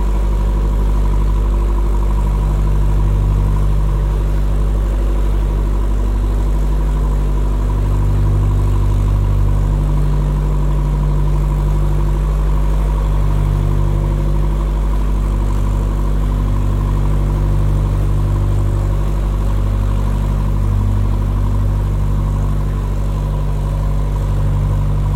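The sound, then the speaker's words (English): A boat engine drones steadily and unbroken as the boat travels through a long tunnel, a deep low hum with layered tonal bands that holds the same loudness throughout, with no voices. “Rather than subject you to what may or may not be a relaxing drone for the next 25 minutes, I will stop the recording shortly”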